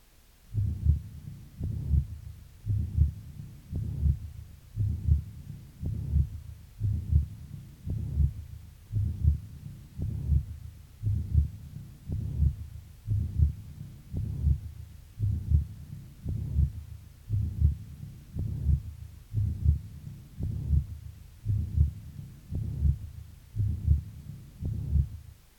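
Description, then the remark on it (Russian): A steady, slow heartbeat through a stethoscope with a systolic murmur of tricuspid regurgitation, a soft whooshing between the low thuds, repeating evenly for over twenty beats with no talking. “Прослушайте систолический шум трикуспидальной недостаточности.”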